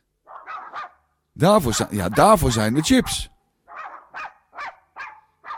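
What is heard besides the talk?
dog barking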